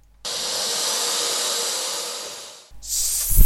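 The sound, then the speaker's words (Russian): A loud, airy snake hiss holds steady for over two seconds before fading out, then a second, shorter hiss bursts in with a low thump underneath. No one speaks. “Еще одна змея!”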